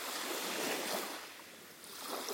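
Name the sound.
ocean waves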